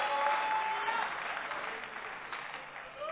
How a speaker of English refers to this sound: Ah, come on, church. Oh, church. Clap then for the Lord. Amen.